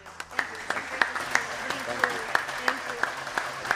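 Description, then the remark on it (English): Scattered hand claps from a small audience ring out at a fairly steady pace, quiet, with faint murmuring voices underneath, applauding the presentation of a check. “Thank you for the round of applause.”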